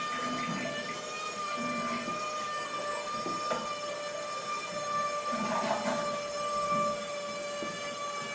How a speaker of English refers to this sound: And this is one of the toilets that we had, and you would flush it, and this is the sound it would make.